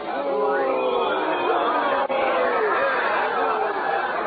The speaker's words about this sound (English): Listen, my uncle, he's coming through the street now. They're cheering him. Cheering, is it? That's a strange kind of cheering, I'm thinking.